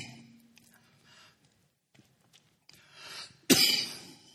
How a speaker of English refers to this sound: I know y'all don't want to hear me cough.